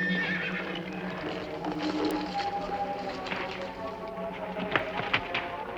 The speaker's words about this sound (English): Quickly mounting his horse, Hogan rides off.